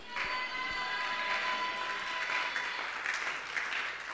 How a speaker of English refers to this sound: Oh, come on, keep clapping. Keep clapping.